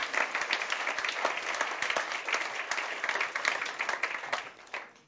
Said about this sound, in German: gebt ihm mal einen Applaus, da hat er es super gemacht.